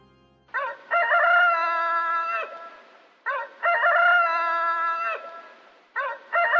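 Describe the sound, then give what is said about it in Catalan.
A rooster crows loudly at night atop a church dome, three times in a row, each call a long harmonic cock-a-doodle-doo with short pauses between, the last one cut off. “De nit, dalt del cimbori, hem sentit cantar el gall.”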